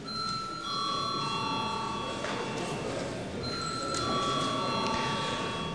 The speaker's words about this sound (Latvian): Tā kā ir atkal pienācis laiks pārtraukumam, tad debatas turpināsim pēc pārtraukuma, bet tagad lūdzu zvanu.